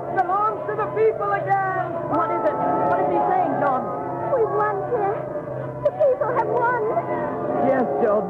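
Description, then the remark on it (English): A large crowd in a Paris street runs and shouts continuously, many overlapping voices rising and falling in a loud, excited din with no single voice standing out. “There's a great crowd in the street. They're running and shouting like Christmas morning.”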